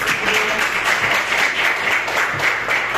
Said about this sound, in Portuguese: e as palmas que glorificam o nome do Senhor.